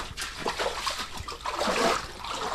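Sloshing and splashing water as someone wades through standing water, a continuous churning swish with uneven surges, no voices.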